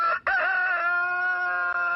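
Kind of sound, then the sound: bird, chicken crowing and clucking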